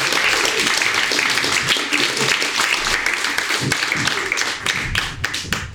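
A crowd applauds a reader after she reads her own personal writing aloud, a dense wash of many hands clapping at a fairly loud, even level, with a few sharper individual claps standing out as it begins to thin near the end.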